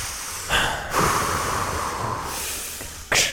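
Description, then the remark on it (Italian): A voice imitates heavy, hissing breathing, as if sealed inside a spacesuit helmet: a couple of long, loud, rasping breaths, ending with a sharp burst of air. “E puoi fare quei respironi proventi tipo.”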